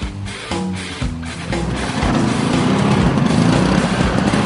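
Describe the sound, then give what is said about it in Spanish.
Steady engine and road noise from road traffic, a source of noise pollution, fills the scene, with harmonic hums from passing vehicles early on giving way to a dense, continuous traffic rumble that grows slightly louder. “También lo hace a través del ruido, en forma de contaminación acústica. El culpable casi siempre es el tráfico.”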